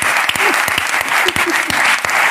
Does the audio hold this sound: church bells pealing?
no